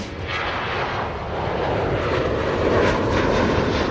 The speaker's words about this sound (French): Vous êtes dans un avion transatlantique. Je vous emmène en voyage aux États-Unis.